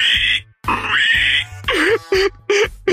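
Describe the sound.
A person loudly imitates a pig call, starting with two long, strained squealing calls and ending in a rapid series of short oinking grunts, with no other sounds.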